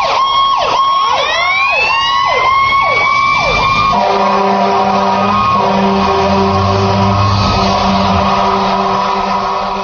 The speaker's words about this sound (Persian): ساعت 12:10، اتاق انتظامات ساختمان. حدود 1 ساعتی از جلسه گذشته بود که به یک بار آژیر بحران به صدا در اومد.